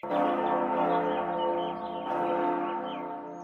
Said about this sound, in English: Who rang that bell? I did.